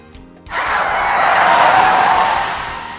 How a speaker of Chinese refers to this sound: 突然，公车紧急刹车，两个人差点跌倒。